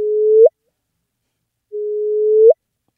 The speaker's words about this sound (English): So that is the sound of two black holes colliding.